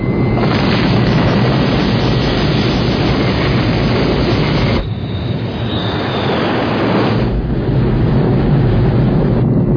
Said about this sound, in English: 5, 4, we have an engine start. 2, 1.